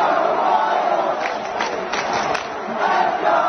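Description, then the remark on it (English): A large stadium crowd at Arrowhead during a Monday Night Football game between the Chiefs and the Saints chants "Let's go Royals" in unison. It is a dense, loud roar of many voices that holds steady for several seconds with slight surges. No single speaker stands out. “Monday Night Football, Chiefs, Saints at Arrowhead, and overheard in the crowd.”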